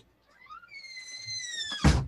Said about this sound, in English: Pardon me, I think a door closed.